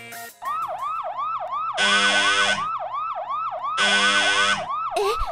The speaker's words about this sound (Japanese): 何が起こったの？ この警報はまさか。